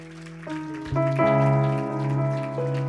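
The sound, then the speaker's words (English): An audience claps along in praise to the Lord in a steady patter beneath loud, sustained organ or keyboard chords that shift and swell, with no one speaking. “If you will, turn that hand clap of praise to the Lord.”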